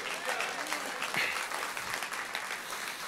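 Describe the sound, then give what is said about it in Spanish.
Soft, polite golf-style applause, a steady patter of many hands clapping lightly and evenly, with faint crowd murmur mixed in and no single clap standing out. “Ese aplauso es como un aplauso de golf.”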